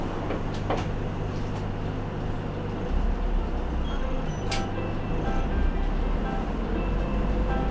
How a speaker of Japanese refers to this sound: 今日も名阪近鉄バスをご利用くださいましてありがとうございます。この車は時代町市民病院前、名神大崎、横田方面、和の内文化会館行きです。